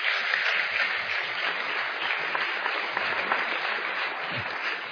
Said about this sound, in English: Another wee round of applause for him. That was fantastic.